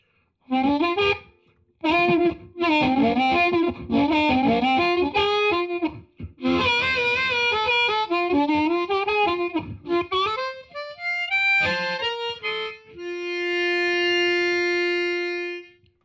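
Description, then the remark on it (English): An electric guitar through a Fender Mustang III amplifier, master volume at 4, on a '59 Bassman patch without reverb, with a warm, gritty tone plays choppy chord phrases and rising single-note runs with short pauses, then ends on one long note ringing out steadily. “This is the Fender Mustang 3 amplifier with the master volume set to 4, playing my basic 59 Bassman patch, which is a Bassman amplifier without reverb or anything else.”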